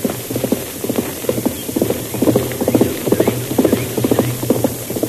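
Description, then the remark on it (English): Horse hooves clip-clop in a quick, steady rhythm as a single rider goes by on a horse lathered from hard riding, loud, over a low continuous hum with no talking. “We'll stay hidden here until that rider passes.”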